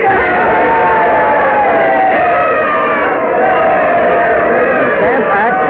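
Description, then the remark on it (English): A large crowd cheers and shouts loudly and continuously while carrying George Mercer on their shoulders and parading him through the streets after he pledged not to enforce the Stamp Act, a dense roar of many voices with whoops rising out of it, steady throughout. “The crowd cheering wildly there while they're carrying George Mercer on their shoulders, parading him through the streets and he's laughing.”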